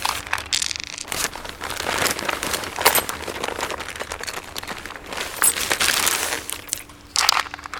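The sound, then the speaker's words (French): Continuous crinkling and rustling of a bag being rummaged through, with irregular crunchy bursts and scraping for several seconds and no voices. “Quand je fouille dans mon cava, ça met un truc que j'aime bien.”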